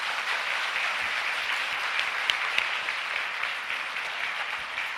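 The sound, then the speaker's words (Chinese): The audience of Burnaby Alliance Church applauds steadily after a baptism, giving applause to God, a dense wash of many hands clapping at an even, sustained loudness for several seconds, with no voices rising above it. “都一齐，我哋俾一个好大嘅掌声俾我哋嘅天父啊嘛！”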